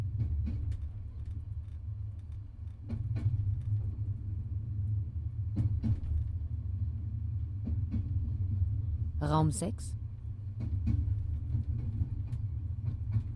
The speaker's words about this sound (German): Ein Zug unterwegs. Endlich mal was Friedliches. Nachtfahrt mit dem TGV. Von Marseille nach Straßburg.